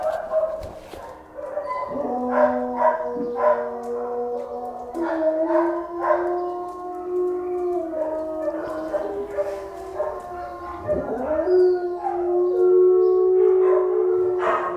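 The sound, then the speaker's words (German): Several dogs in a kennel howl and whimper together, their long, wavering cries overlapping and rising and falling in pitch, continuous throughout, with an occasional short bark mixed in. “hat mich in einem Zwinger bei zwei Hunden hocken sehen, mit Tränen in den Augen.”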